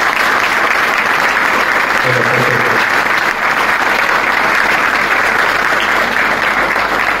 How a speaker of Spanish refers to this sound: Así que estamos muy conformes y muy contentos por eso, y por eso también creo que vale la pena el aplauso para todos los que tomaron parte.